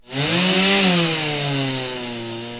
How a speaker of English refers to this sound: Now, yesterday, really the only sound was of chainsaws as residents and volunteers were cutting through jumbled piles of wood.